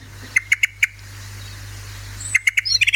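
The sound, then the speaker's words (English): A Eurasian blackbird's call: sharp, clipped chink notes, four in quick succession, a pause, then a faster, rising burst of similar notes. Clear, with no voices. “And then this is one of their calls.”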